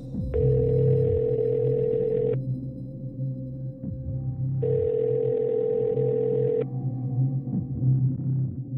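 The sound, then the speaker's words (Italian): A phone's ringback tone sounds twice as a man calls a lawyer, two long steady buzzing rings separated by a pause of a couple of seconds, over a low rumbling background, with nobody picking up. “Richiama, dice, per l'ultima volta l'avvocato Caracciolo e mi fa notare, ancora una volta, che non risponde nessuno”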